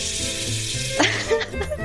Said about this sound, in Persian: بله، من صدای شرشر آب بیارم.